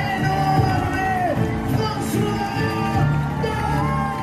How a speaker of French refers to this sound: Les applaudissements de milliers de personnes, les cris, la sono, la musique, une arrivée de rockstar pour François Daen sur la petite place Triangle de l'Amitié à Chamonix,